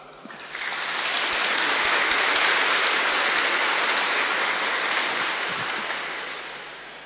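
Warm audience applause: a dense, steady wash of many hands clapping that swells in quickly, holds full and even for several seconds, then gradually tapers off, with no talking over it.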